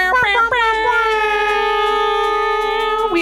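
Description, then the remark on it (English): A loud air horn blares with a couple of quick stuttering bursts, then holds one long, brassy, steady tone for about three seconds before cutting off. “We air horn for the king of men who represents quality men everywhere.”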